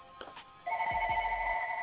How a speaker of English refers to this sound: Hey, y'all got phones ringing today. Okay, bro. They have phones all over the place.